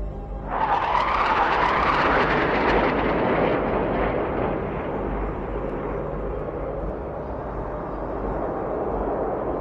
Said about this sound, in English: We all looked to the sky. There were only a couple others. Three jets flew by.